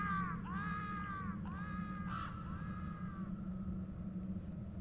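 A crow first flaps its wings and then caws about four times in quick succession, harsh drawn-out calls that fade a little toward the end, over a steady low background rumble.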